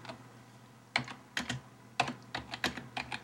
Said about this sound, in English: Oh, she's typing, how do I feel about Kochi?